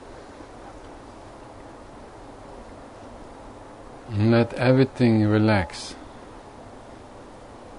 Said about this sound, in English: And just open up to the sound of the river.